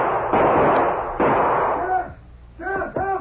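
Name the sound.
gunshot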